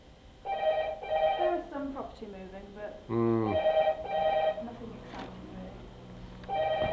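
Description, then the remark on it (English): A telephone rings in repeated bursts of bright, warbling tones, steady, while a person talks over and between the rings. “Do you want to ditch me and grab the phone?”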